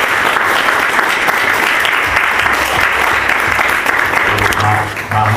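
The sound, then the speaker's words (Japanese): A large audience applauds steadily and loudly, giving applause of glory to the Lord God, a dense wash of clapping that fills the whole stretch without pause, with a low murmur of voices underneath. “우리를다스려주신우리주님앞에영광의박수를올렸으면좋겠습니다 私たちを治めてくださる主なる神様に栄光の拍手を捧げたいと思います。”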